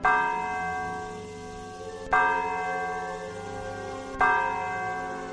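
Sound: church bell ringing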